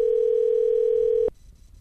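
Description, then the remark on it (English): A telephone is hung up: a steady, loud dial tone hums for about a second and a quarter, then cuts off abruptly with a click, leaving faint low background noise. “I'm hanging up the phone.”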